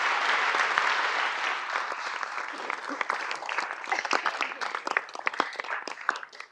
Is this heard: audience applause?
yes